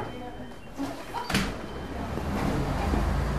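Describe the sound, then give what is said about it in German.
A shop door clunks open partway through as a man steps out, and the steady rush of columns of cars on the four-lane Stresemannstraße swells louder and stays. “Hilmar Kunert tritt aus der Tür.”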